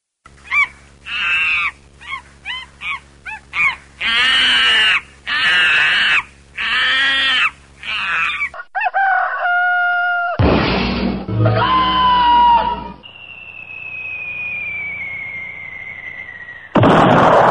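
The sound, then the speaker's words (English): Loud, harsh squawks and shrieks burst out in a rapid frenzied series, followed by shrill whistling cries and a long falling tone, as a monkey in a tree attacks a large bird one morning, grabbing it and throwing it out of the tree. “a rather large bird one morning, really of a sizable bird, and what happened when the monkey encountered the bird and approached him.”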